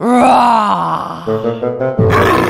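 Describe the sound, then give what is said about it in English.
A person voices a loud, drawn-out lion roar, a growling, groaning vocal imitation that rises and falls over a couple of seconds before ending in a harsh, breathy burst. “Roar! What an incredible lion!”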